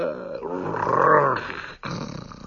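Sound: dog growling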